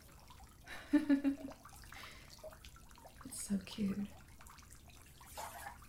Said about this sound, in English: Wait, don't splash me. Hey, it's okay. It's just home. You're in the bath. It's okay.